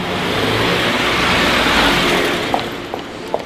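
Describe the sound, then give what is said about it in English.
A motorbike of the kind used to deliver chicken to customers' doors in South Korea revs up, swelling to a loud roar before easing off slightly, with a couple of sharp clicks near the end and no voices. “Most are franchises and deliver right to the customer's door via motorbike.”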